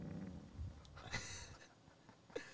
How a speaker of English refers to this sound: Every single time I hear that, it sounds like thunder. It does sound like lightning. Thunder, but it's just a fart.